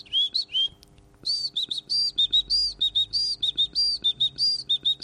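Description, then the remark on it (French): A person whistles an imitation of a great tit's call: bright, high two-note phrases repeated rapidly and rhythmically, fairly loud, with no talking over it. “Tu as reconnu la mésange? Tout à fait. Voilà, la mésange charbonnière qui fait des...”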